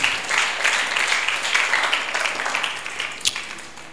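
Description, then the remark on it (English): A crowd applauds steadily, clapping for Jesus after a prayer, a dense wash of many hands clapping at once, fairly loud and continuous throughout, with a sharp louder clap standing out near the end. “Clap for Jesus.”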